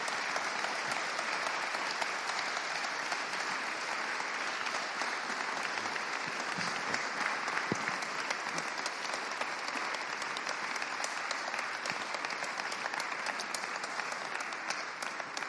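Sustained applause from a sizable audience for a man who has spoken openly to them, steady dense clapping for about fifteen seconds without fading or breaks.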